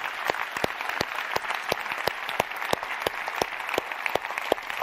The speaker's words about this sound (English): They're our kids workers. And I wonder if we could just give them all a round of applause for our kids workers. Well done. Well done.